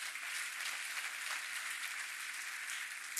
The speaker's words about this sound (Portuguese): Quantos estão felizes pela Palavra Viva Church, está participando dessa campanha, dê um glória a Deus, aplauda o nome do Senhor.